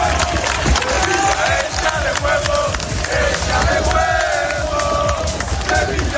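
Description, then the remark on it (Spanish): A large crowd of Sevilla football fans cheers and chants loudly and continuously, with whistles and shouts rising over a dense, roaring wall of voices, welcoming the Sevilla team bus on its arrival before the match against Las Palmas at the Sánchez Pizjuán. “Así ha recibido ahora mismo la afición del Sevilla a su autobús.”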